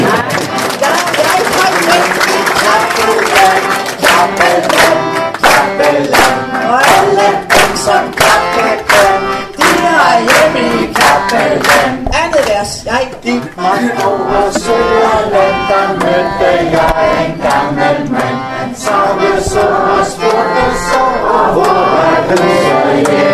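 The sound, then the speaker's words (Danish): An audience at Tårnby Strand claps loudly and steadily for over twenty seconds, the sharp claps falling in a fairly regular rhythm while many voices carry on underneath. “Og så skal vi klappe for at ændre nogle ord, som hedder forbrug, vækst og konkurrence til ydmyghed, nøjsomhed og næstekærlighed.”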